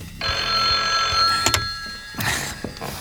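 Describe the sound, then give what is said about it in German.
A telephone bell in the detectives' headquarters rings with a long, shrill metallic trill, then clatters as the receiver is lifted, followed by a few handling thunks. No one speaks. “Zwei Wochen später klingelte in der Zentrale der drei Detektive das Telefon.”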